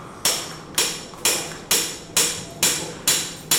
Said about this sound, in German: Dann setzt man eine Probepfanne ein, schaut, ob das alles passt und wählt dann die Originalpfanne und schlägt die fest ein mit dem Ziel, dass diese sich pressfit verankert.